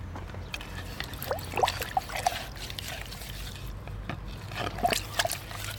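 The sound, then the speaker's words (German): Water splashes and trickles into a washed-out pot used as a trap as a man refills it, in uneven gurgling bursts over a steady low background hum. “Er füllt ihn wieder mit Wasser und stellt ihn zurück zwischen einen gedeckten Fahrradständer und eine Hecke.”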